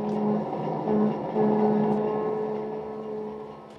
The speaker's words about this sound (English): A sleek, long streamliner heads out of New York.